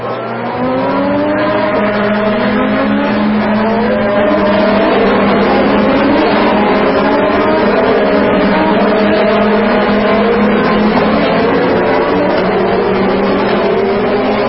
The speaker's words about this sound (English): there was just a taste and sound of the Indianapolis 500 and what the cars sound like